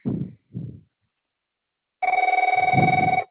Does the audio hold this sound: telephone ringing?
yes